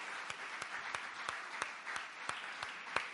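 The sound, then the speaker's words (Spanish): A church audience applauds steadily in gratitude to God, a dense wash of many hands clapping, punctuated by sharp, evenly spaced louder claps about three times per second, as if some keep a beat. “Aleluya, aplaudimos bien, vamos a dar un aplauso de gratitud, porque de verdad Él es digno.”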